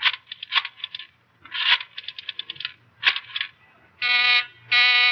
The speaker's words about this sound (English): I called the booth and the line was busy. I was dialing you.